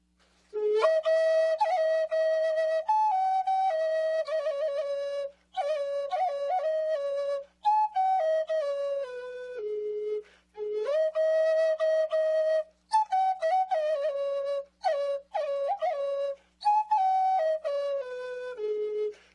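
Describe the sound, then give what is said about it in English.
A solo flute plays a slow, improvised melody in long breathy phrases with brief pauses between them, notes sliding and wavering in a mid-to-high register, with no voices present. “And what I'm going to do is improvise a song, and I think within it you might be able to hear the wind, the sound of the birds, and think of the heart of the tree and our own breath that is shared when we play a flute.”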